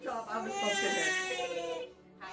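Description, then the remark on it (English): A baby screams and cries on his first Halloween in one long, sustained, high-pitched wail with strained harmonics, loud and unbroken, ending with a brief catch before another cry begins. “won't stop screaming”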